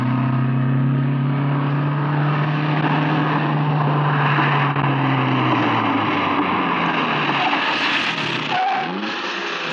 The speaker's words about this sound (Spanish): Gabriel Cartaya detiene el carro en la esquina de la casa de Ana.